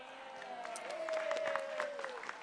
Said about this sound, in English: He's clapping. For those of you, he's clapping his hands. He's my biggest supporter in more ways than you can imagine.